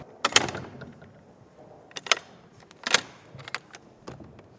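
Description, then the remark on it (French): A large, heavy metal gate being unlocked and opened: several sharp clanks and rattles in an irregular rhythm, fairly loud, with quieter scraping in between and no voices. “Mais déjà passé la porte du temps. C'est un grand portail.”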